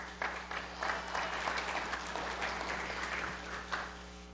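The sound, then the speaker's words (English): A church audience claps a clap offering to Jesus as a woman is called up, a dense patter of many hands that carries on for several seconds at a moderate level, with a low electrical hum beneath. “Let's give a clap offering to Jesus as she comes, please.”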